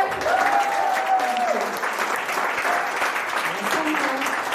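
Steady, dense applause from an audience, a broad wash of clapping that holds at an even level throughout, with a faint voice or cheer briefly rising above it near the start.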